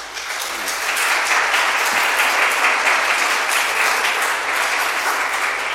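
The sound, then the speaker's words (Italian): An audience at a Holy Mass bursts into applause for a couple celebrating 50 years of marriage, swelling within the first second into steady, dense clapping that stays loud and even to the end, with no voices standing out. “Una data importantissima, merita veramente un applauso anche a questi sposi.”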